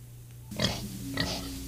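A pig oinks twice, two short snorting grunts about half a second apart, fairly loud over a low steady hum, with no talking.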